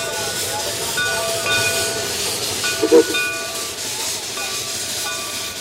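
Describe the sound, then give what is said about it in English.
A restored black steel-and-brass steam locomotive, engine number 4, getting under way on a trip after the conductor waves to the engineer, with a steady broad hiss of steam over faint sustained tones and one brief louder puff partway through. No one speaks. “When everybody's on board, the conductor waves to the engineer, and engine number 4 begins one more trip.”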